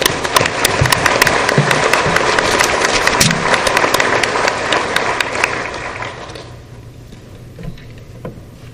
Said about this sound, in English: And I know what Judge Dalby would want us to do is acknowledge these young people with a round of applause.